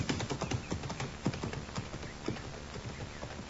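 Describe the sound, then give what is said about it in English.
Horse hooves clip-clop in a steady, uneven rhythm, moderately loud, with many sharp knocks over a low rumbling background and no talking. “I left my horse over the rise there. Would you get him for me?”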